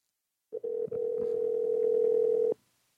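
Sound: telephone dial tone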